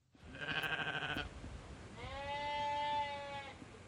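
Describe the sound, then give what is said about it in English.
Two sheep bleats from sheep grazing on a hillside in Alstonfield, Britain, sound one after another, the first short and wavering, the second longer and steadier, outdoors with no talking. “Sheep have grazed on the hillsides since feudal times.”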